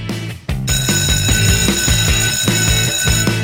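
A loud bell starts ringing abruptly after a brief moment and keeps ringing steadily, with a rhythmic, bass-heavy musical accompaniment of guitars beneath it.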